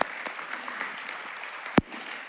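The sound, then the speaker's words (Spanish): An audience claps for the people who are serving, in a steady, dense patter of many hands at moderate loudness, with one sharp, louder smack standing out near the end. No one speaks. “Siempre con el plato lleno de comida o vacíos de comida, gracias a Dios, pero los pido que les da otro aplauso para ellos que están sirviendo.”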